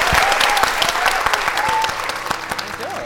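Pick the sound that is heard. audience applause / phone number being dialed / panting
audience applause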